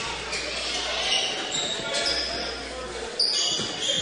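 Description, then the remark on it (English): A basketball is dribbled on a hardwood court during a game between Fort Recovery and LCC, its thumps partly buried in busy gym crowd noise, with sneaker squeaks and voices in the background. “dribbles in, passes it back to”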